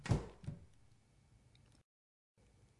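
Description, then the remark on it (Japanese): A drawer slides shut with a soft double knock, two dull wooden thuds close together, then quiet room tone with a brief silent break. “胸の内でそう小さくつぶやき、静かに引き出しを閉めた。”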